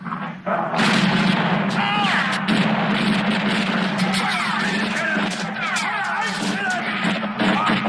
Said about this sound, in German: Aber seine Hilfs-Sheriffs, die sind halt, ja, trigger-happy und ballern drauf los.